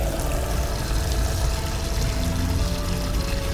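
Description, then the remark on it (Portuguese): Steady rush of tap water splashing into a sink as something is rinsed under it, continuous, with slight shifts in the splashing and no talking. “Passa uma água, sim, nós vamos passar uma água nela. Ó, deixa eu pôr aqui embaixo da minha pia.”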